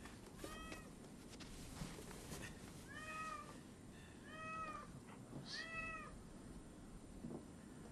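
A cat meows repeatedly, four or five drawn-out, wavering cries spaced a second or so apart, clear over a low background hum, with no one speaking.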